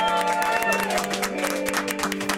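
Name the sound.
round of applause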